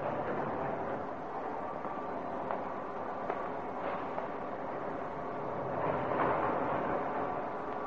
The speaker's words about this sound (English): Now, listen, here comes the train.